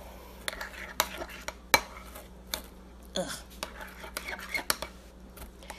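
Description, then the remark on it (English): A utensil scrapes and clinks against a bowl while stirring a baking soda mixture, in an irregular stirring rhythm with sharp taps and softer swishes, plus a brief muttered sigh. “And now we're gonna mix.”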